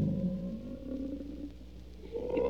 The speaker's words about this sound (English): Know what that is? Elephants mating.